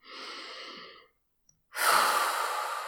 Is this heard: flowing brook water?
no